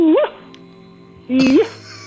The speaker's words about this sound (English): Whoa! Is that the sound of the pimped out turkey? That's the sound the pimped out turkey makes.